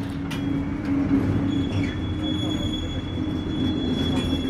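A heavy, fully loaded freight train rumbles low and steady, with a continuous hum and faint metallic squeals from the wheels as it creaks slowly into motion.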